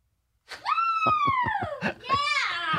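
A woman lets out a loud, high-pitched scream close by, holding a long wavering shriek, breaking briefly, then rising into a second sustained scream.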